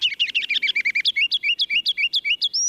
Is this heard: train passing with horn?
no